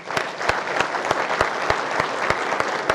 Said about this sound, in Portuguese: O chefe do Executivo Municipal pediu um minuto de aplausos em homenagem às vítimas da Covid-19 em Manaus.